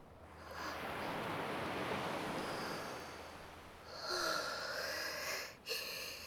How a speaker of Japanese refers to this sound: 潮の香りがする。波の音も心地いいね。